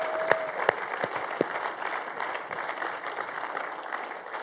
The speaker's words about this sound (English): And you know, before we go any further, let's just give one more round of applause to all the moms out there, because they have a hard job.